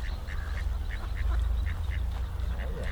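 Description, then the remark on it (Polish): Ducks quack repeatedly in short bursts over a steady low rumble of flowing river water in Międzyrzec as people feed them. Several birds call, with no talking. “Przyjdą sobie później, wezmą kaczki.”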